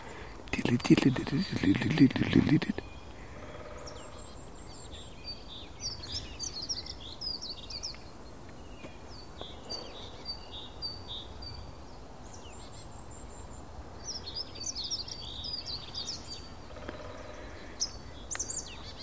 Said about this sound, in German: Ja, die Meise schimpft ein bisschen, weil ich hier rumstehe.